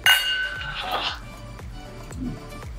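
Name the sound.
glasses clinking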